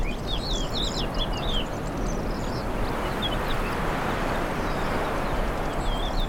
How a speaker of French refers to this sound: Du vent, de la lagune, des oiseaux et des végétaux.